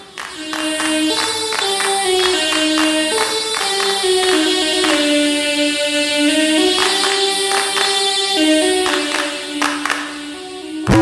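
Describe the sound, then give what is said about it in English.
A bright, reedy software synthesizer melody winds stepwise through the Hejaz maqam, an Arabic scale, backed by steady handclaps from a clapping drum machine marking a rhythm. Loud, with no voices. “They're software synthesizers like this, but they're just hardwired to North African and Arabic scales.”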